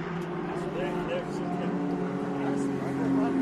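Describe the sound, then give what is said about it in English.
A Datsun GT3 race car's engine drones steadily at low revs as it crawls slowly along the track, a continuous moderately loud hum with a person talking over it. “Ooh, this guy's just barely crawling. It's a GT. He's not doing very well.”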